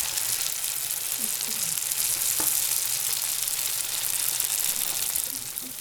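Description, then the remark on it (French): Steady, dense sizzling of samosas frying in hot oil, fairly loud, a continuous crackling hiss with a few faint clicks and low murmurs underneath. “Quand on a fini de fabriquer le samoussa, bien collé, bien fermé, on laisse la colle prendre, sécher, durcir, et après, on peut le passer dans la friture.”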